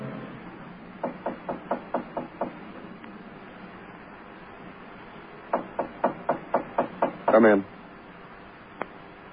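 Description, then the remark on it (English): Two rounds of brisk knocking on a door, about seven raps each, separated by a short pause, clear, followed by a brief muffled burst of sound and a single faint tap. “Well, I knocked you.”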